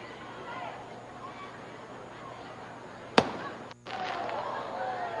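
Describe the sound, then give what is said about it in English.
A single sharp firework bang cracks out partway through, with a brief echoing tail, over a steady murmur of crowd noise and indistinct voices at a baseball game. “Fireworks going off in the background.”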